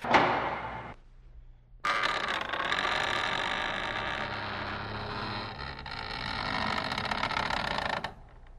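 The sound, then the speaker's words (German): A large, heavy wooden barn door, opened carefully and with effort, creaks open with a loud, drawn-out groan lasting several seconds, after a short first creak and a brief pause, with no voices. “Doch ein lautes Knarren war mit dem Bewegen der Tür verbunden.”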